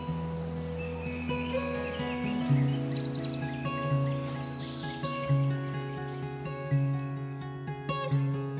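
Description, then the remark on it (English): Bright morning birdsong, chirps and trills fluttering at moderate volume over a steady, low humming musical drone, livelier early on and thinning out toward the end, with no voices. “But at night, when I can't sleep, I imagine waking up to the sight of a blue heron gliding across the pond and morning birdsong.”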